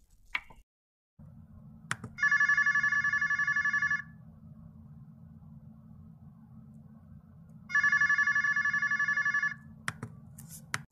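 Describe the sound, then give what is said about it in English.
A telephone rings twice as an outgoing call is placed, each ring a bright, loud, warbling electronic trill lasting about two seconds, separated by a pause, over a low steady hum with a few clicks at the start and end. “I think we need to make another phone call”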